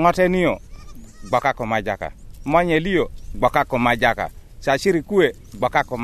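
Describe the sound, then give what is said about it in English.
Goats bleat repeatedly and loudly, their wavering, quavering cries overlapping in a busy chorus with only short pauses between calls, as a boy herds his family's goats in a village of mud and thatch huts with no electricity, shops or roads. “A boy, naked and barefoot, herds his family's goats.”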